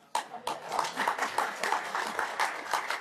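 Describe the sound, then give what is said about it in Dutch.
A council meeting breaks into steady applause to approve an appointment by acclamation, many hands clapping in a dense, continuous patter that starts abruptly and holds at a fairly even level for a few seconds. “En dat vraag ik gewoon alsnog en dat kwam bij acclimatie. Dus dat betekent met applaus.”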